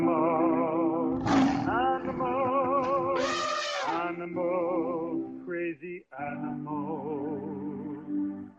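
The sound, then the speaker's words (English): An angry elephant roars loudly, long harsh bellowing calls with a couple of shrill trumpeting bursts, continuing for several seconds with only brief pauses. “Boy, that elephant sounds really, really angry.”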